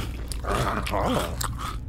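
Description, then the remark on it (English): A dog crunches and chews on treats, with wet, irregular bites and a few sharp crackling snaps over about two seconds; no one speaks. “Go on, nibble one up, little fella.”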